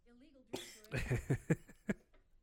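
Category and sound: human body sound, coughing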